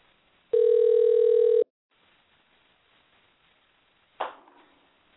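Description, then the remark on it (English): A single loud ringback burst lasting about a second sounds over a phone line as a number is rung again, followed by a hushed, hissing line and then a sharp click as the call seems to connect. “Let me try ringing the number again.”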